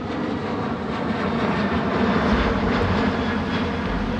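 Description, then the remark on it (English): A steady, loud roar of a Russian MiG-23 fighter jet flying, a dense low rumble with a broad engine hiss that holds constant for several seconds with no voices. “his mission to procure a coveted Russian MiG-23 fighter jet from the Egyptian army.”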